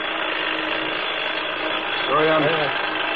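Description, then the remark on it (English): An alarm clock rings with a steady, harsh mechanical rattle that runs without pause through the whole clip, joined near the end by a short, wavering tonal sound. “I can't seem to find the kind of alarm that I really like.”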